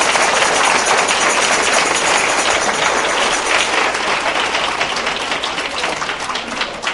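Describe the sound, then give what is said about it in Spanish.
An audience claps steadily for about seven seconds, a dense wash of many hands at an even level that eases off slightly near the end, with no voices over it. “entonces por eso fíjate que este es el aplauso más raquítico que hemos dado esta noche.”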